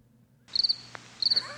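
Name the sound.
crickets chirping sound effect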